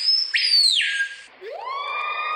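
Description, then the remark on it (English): A shrill toy horn screamer wails in siren-like glides, first a high tone sliding downward, then after a brief dip a new tone rising and holding steady, loud and buzzy, with no talking. “That sounds like a siren.”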